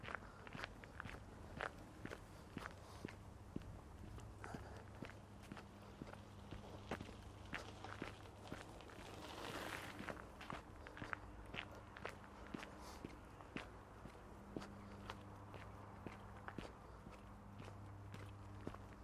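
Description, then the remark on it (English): A large electrical substation hums with a steady, low droning tone that persists throughout, while regular crunchy footsteps sound over it. No one speaks. “So the hum you're listening to is a big substation.”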